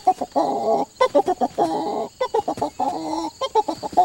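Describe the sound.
A man's voice imitates a rooster in Crete, Nebraska, mixing choppy clucking bursts with longer drawn-out crowing calls in a loud, rhythmic run of squawks.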